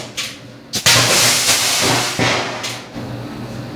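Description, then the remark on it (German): An NMC battery cell bursts during a test with a sudden sharp bang, fire and smoke, followed by a loud, steady roaring hiss of venting gas, with another abrupt crack partway through and a few short pops as the hiss continues. “So, hier schöner Knall, Feuer, Rauch, volles Programm.”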